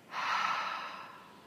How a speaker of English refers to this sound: And filling your lungs and just have a releasing breath. Exhale heavily and just release. Breathing in and exhaling.